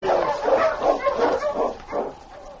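An approaching team of sled dogs pulling a sled barks and yips excitedly, overlapping calls in a busy, continuous chorus with a few higher whimpering notes mixed in.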